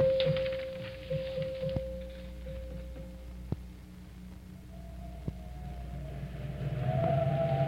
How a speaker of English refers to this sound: It certainly is windy up here on the mountain.